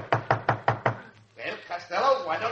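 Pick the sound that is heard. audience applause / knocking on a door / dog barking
knocking on a door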